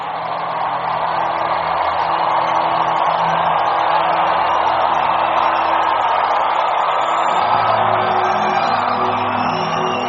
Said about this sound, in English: How many of you know that the shouting side is the winning side? Give him another shout of victory.